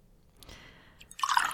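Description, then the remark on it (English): Tequila pours into a glass, a thin trickle building into a brighter, gurgling splash at the end, with a faint clink at the start and no one talking. “Let me pour you some.”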